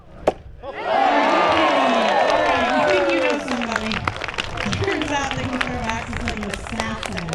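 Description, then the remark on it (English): A sharp thud of a thrown axe hitting the target in a women's axe throwing competition at a logging show at the Southeast Alaska State Fair, then a crowd erupts in loud, sustained cheering and shouting that gradually settles into excited chatter and scattered applause. “The crowd goes crazy as Lily Camp hurls an axe toward the target, and it hits”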